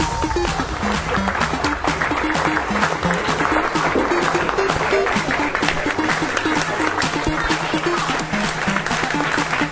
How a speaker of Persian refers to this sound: این روزها وقتی به سالن‌های نمایشی این جشنواره سر می‌زنی، صدایی که مدام می‌شنوی صدای خنده و تشویق تماشاچی است.